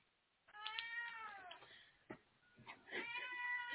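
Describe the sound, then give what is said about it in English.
A cat gives two long, drawn-out, insistent meows as he tries to get into a cat food bag, separated by a short pause with a few faint rustles and a sharp click. “I don't know if you can hear my cat, but he's trying to get into a cat food bag.”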